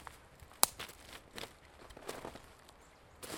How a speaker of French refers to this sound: Je vous invite pour une balade poético-botanique. Suivez-moi. Bruit de vent, des pas dans les feuilles, bruit de ronces, d'oiseaux.